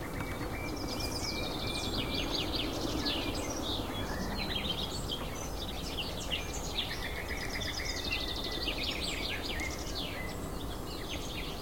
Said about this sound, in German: Bei uns heißt sie auch die Kieselsteine, weil ihr Kontaktruf und ihr Warnruf klingt wie zwei kleine Flusssteine aneinander geschlagen. So klack, klack, klack, klack, klack, klack, klack, klack, klack, klack, klack, klack. Da hören wir es hinter uns.